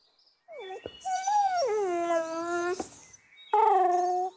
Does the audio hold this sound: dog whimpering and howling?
yes